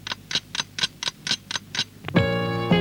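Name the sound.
clock ticking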